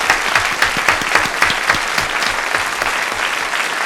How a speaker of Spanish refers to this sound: Te queremos, este aplauso para ti